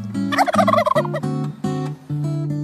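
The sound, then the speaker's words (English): A turkey gobbles in a loud, warbling burst, followed by several shorter buzzy, nasal pulses in quick succession, with no talking over it. “What is that? My turkey friend!”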